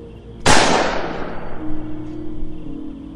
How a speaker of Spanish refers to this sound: Jalé el gatillo, el arma hizo un ruido fuerte de disparo, pero no se sacudió.